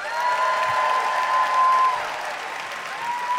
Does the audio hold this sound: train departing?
no